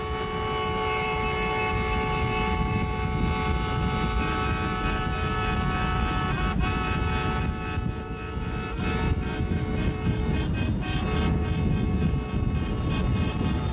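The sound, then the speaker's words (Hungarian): Hundreds of taxis with black mourning ribbons on their antennas depart Budapest in a convoy to Székesfehérvár, sounding protest car horns. A dense, continuous chorus of horns blares together over the rumble of many engines, a loud, sustained wall of honking with no pauses and no talking. “Fekete gyászszallag az antennákon, sok száz kocsi várakozik, majd indul, méltóság teljesen egymás mellett, egymásért. Kiáltó, tiltakozó dudaszóval.”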